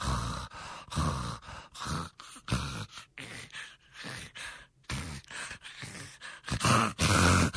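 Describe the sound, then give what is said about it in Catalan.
A voice imitates a child snoring, with irregular bursts of rasping, snorting breaths and gasps that stop and start in an uneven rhythm, fairly loud. “El que s'observen són més aviat hipoamnees, algo així. Està roncant...”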